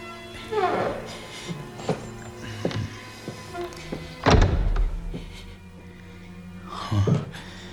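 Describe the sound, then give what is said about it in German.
A heavy front entrance door of an apartment, just unlocked with a lock pick, creaks open on its hinges amid scattered clunks, with a loud, deep thud midway and another drawn-out creak near the end, fairly loud. “Als ihm nach mehrmaligem Klingeln noch immer nicht geöffnet wurde, griff der erste Detektiv zielstrebig nach seinem Dietrich und schon nach wenigen Handgriffen öffnete sich quietschend die schwere Eingangstür.”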